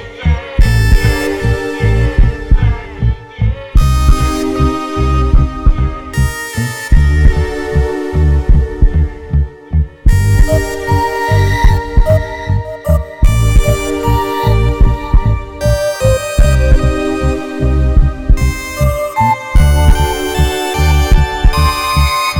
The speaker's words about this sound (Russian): Только дыхание дает. И сердцебиение. Сердцебиение.